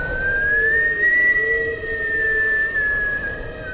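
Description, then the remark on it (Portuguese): A long, unbroken high whistle in a forest holds one steady pitch with only slight wavering for several seconds, sounding alone over a low, rough rumbling background. “Getúlio enfrentou muito medo, pois estava sozinho e o assobio continuava.”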